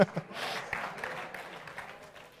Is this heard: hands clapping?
yes